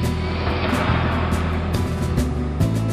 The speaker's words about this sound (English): Found my truck keys, engine on.